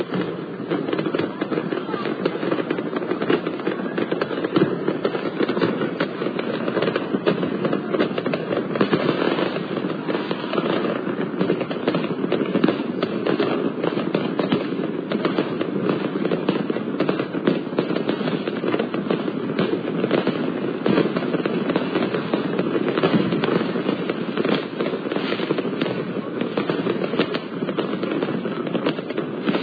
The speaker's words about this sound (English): So that's their response to the Naples mayor. Take that. How did you enjoy the fireworks show?